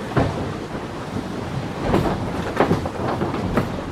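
Waves slap against the hull of a small boat, heard inside its living space, in a steady, rumbling wash, with heavier thuds landing every second or so, with no voices.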